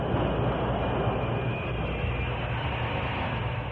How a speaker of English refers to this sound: At 6 o'clock, the train reached Richland.